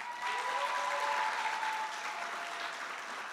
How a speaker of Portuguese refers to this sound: vamos aplaudir